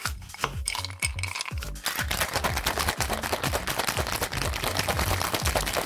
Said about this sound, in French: Non, ce sont des glaçons. Tasse. Ah, des glaçons, oui. Des glaçons dans un shaker apéro.